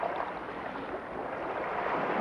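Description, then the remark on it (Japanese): A steady, continuous wash of ocean waves on the shore at Minamisanriku town in northern Miyagi Prefecture, Japan, broad and hissing at an even moderate level, with no voices over it. “宮城県の北部になります南三陸町の波の音をお聞きいただいています。”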